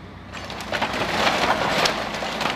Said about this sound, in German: kippen ihre Holzladung in die Sortieranlage.